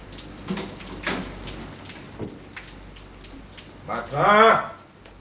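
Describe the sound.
An office door is opened at 7:15, with a few soft clicks and rattling handle noises spread over several seconds, followed by a man's voice calling out loudly near the end.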